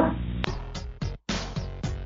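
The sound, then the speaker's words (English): A dog named Boo Boo barks loudly, letting out a quick, steady run of about six sharp barks with short gaps between them. “Good dog.”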